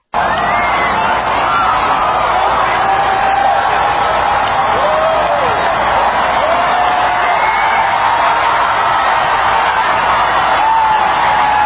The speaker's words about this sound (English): A massive crowd gathered at a watch party in the Indianapolis Motor Speedway. They cheer as the eclipse begins.